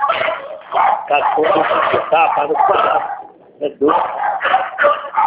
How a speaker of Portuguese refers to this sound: Ah, os cachorros aqui começam a latir e não escuta nada.